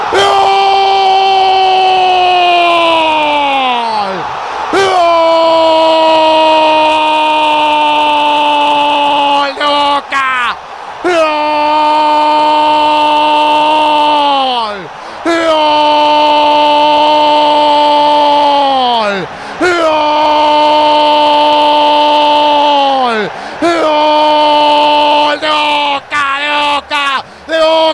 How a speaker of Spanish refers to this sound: Gol, el de los gritos salvajes, Merentiel, en la agonía del primer tiempo. ¿Por qué será que no sé vivir sin esta locura? Un grito bostero, que es una cuestión de salud pública.